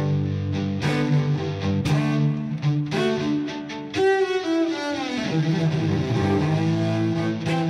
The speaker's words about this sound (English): But for the most part, I get the electronic sounds from my cello. I go through a guitar effects processor, and then I run that through a looping pedal. And so I use all kinds of like delay and distortion and reverb and different sounds like that.